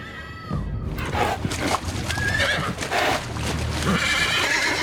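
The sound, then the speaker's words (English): A restless horse whinnies loudly near the start, then its hooves trot and splash in a steady rhythm through the shallows at a beach, with a busy wash of surf and movement throughout. “The restless horse trots through the shallows.”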